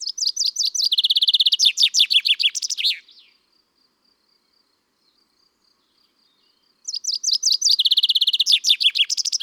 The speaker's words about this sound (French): Le pinson, c'est toujours la même chanson.